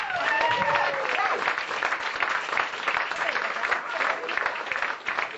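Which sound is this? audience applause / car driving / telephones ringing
audience applause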